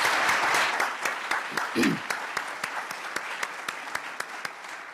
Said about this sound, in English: How about one more round of applause for Mark McClellan?